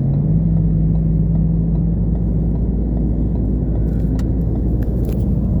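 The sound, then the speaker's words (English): A steady, loud low-frequency rumble of road noise from inside a car moving in heavy traffic with a tailgater behind, with a constant engine drone and faint ticks and rattles near the end. “Got this tailgater and all this heavy traffic.”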